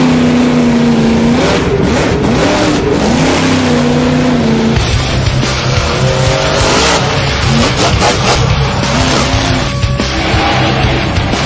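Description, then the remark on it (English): A loud, roaring monster truck engine revs and surges continuously, its pitch rising and falling with bursts of acceleration and some tire squeal, overpowering with no voices. “I'm going to tell you, I'll be about 20 feet in the air off of this Mercedes here.”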